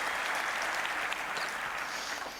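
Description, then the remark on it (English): A crowd applauds steadily, a dense wash of many hands clapping at once, sustained and fairly loud throughout with no voices on top. “And general applause here.”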